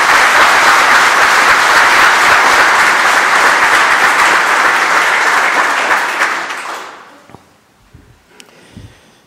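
An audience in a church applauds, thanking those who decorated the church with flowers, loudly and steadily for about six seconds, then the clapping quickly thins out and fades, leaving a few faint scattered sounds.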